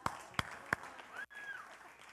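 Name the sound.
applause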